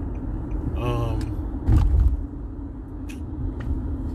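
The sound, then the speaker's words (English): A heavy truck rumbles, its low engine drone rising with a brief whining tone and a louder burst of rumble, then settling back into a steady idle. “The fuck this truck doing?”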